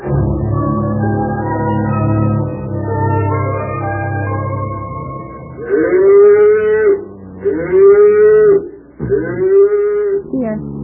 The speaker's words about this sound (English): Wake up. Wake up, dear. The cows are mooing.